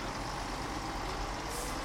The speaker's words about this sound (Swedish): Jag går ut av hotellet på Sundvolden och ser buss efter buss komma.